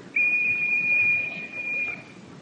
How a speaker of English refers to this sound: Now we shall try the whistle from this side. Pay attention, please.